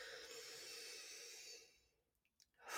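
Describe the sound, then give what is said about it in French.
A long, airy deep breath drawn in for about a second and a half, fading into a brief quiet with faint small sounds, then the start of a strong exhale letting the air out of the lungs, during a guided breathing exercise. Fairly loud, with no talking. “Donc, on va prendre une grande respiration, la plus grande respiration que vous avez prise de votre journée, là.”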